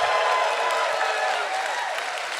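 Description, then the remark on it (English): Steady audience applause for audience members born in the 1950s fills the whole stretch, a dense wash of many hands clapping at once, loud and even, fading only slightly toward the end. “They are applauding you for being alive, sir!”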